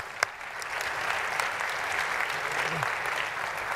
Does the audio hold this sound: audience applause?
yes